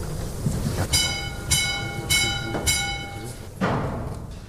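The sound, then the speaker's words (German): The last mine wagon rolls out on rails from the Darkov shaft of the OKD hard-coal mine near Karviná, Czech Republic, giving a steady series of loud metallic clacks about every half second, each trailed by a high, sustained ringing squeal from the wheels. “Der letzte Wagen wird ausgefahren.”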